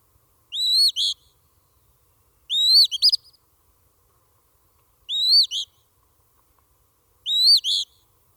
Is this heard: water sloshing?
no